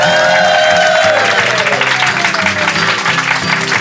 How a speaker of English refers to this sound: Give them a nice hand.